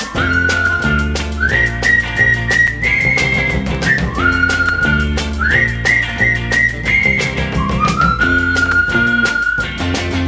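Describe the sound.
A loud whistled melody, a friends' signature whistle used to call a friend, repeats a short rising-and-falling phrase three times over a full musical backing with a steady beat and deep bass.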